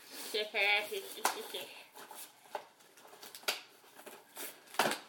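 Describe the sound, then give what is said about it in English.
Wrapping paper crinkles and tears in a series of sharp rips spread over several seconds as a present is unwrapped, with a short burst of someone's voice near the start. “She's already starting to rip.”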